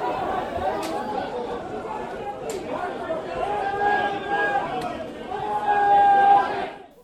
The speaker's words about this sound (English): I love that guy screaming at the end there.